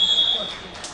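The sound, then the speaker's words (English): A wrestling match buzzer ending the second period sounds one loud, steady, high-pitched blast that cuts off after about a third of a second, leaving murmuring arena background noise. “near fall going to be awarded at the buzzer.”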